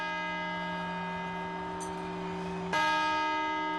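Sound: clock tower bell chiming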